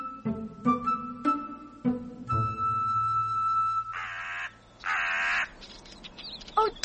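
A crow caws twice, loud, with harsh rasping calls about a second apart, following a few short tonal notes and a sustained hum, with no talking.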